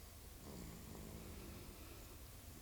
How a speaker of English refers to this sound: Even the snoring baby. Yeah, I mean, he's enjoyed this, right? I mean, he was a little fussy at the beginning, but it's not too bad.